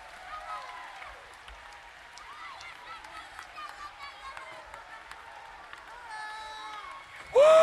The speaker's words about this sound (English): Clap, shout, dance, praise. Come on, if you're sick in your body, clap your hands. If your bank account is empty, clap your hands. If you're down, clap your hands.